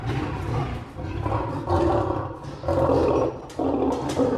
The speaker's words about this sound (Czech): Slyšíme lva, takže by mě zajímalo, co všechno se taková šelma musí naučit, aby mohla ve volné přírodě přežít, a jak to je pak v zoologické zahradě?